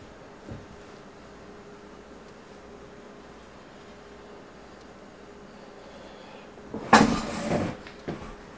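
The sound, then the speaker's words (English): A wooden chair being bitten: a short burst of creaking and knocking near the end, with a smaller knock just after, following several seconds of quiet room tone. “So you keep biting the chair.”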